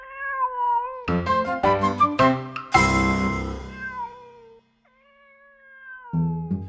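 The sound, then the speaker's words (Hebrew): A cat meows repeatedly, a string of short cries followed by one loud, drawn-out wail that trails off, a brief pause, then more mewing. No one speaks. “יושב, נעליו, משפם עד זנב, מתלקק, מתנקה, על השביל שם ממול, לאפרתי שלו, מחכה. החתול.”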